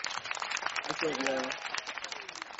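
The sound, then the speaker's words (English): A round of applause from a crowd, dense steady clapping that fills the whole moment, with a brief rising cheer or whoop partway through. “Yeah, a round of applause.”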